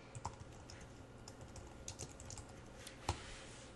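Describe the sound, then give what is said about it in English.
Typing on a computer keyboard while writing code, entering three equal signs in a row for an equality test: a run of soft, irregular key clicks with a steady faint hum beneath, one sharper, louder keystroke near the end, and no voices. “We're going to get in the habit of typing three though from this point on, okay?”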